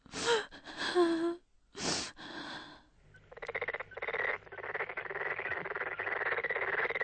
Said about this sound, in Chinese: 青蛙又叫了起来：“小蚂蚁，快到河里洗澡去吧！”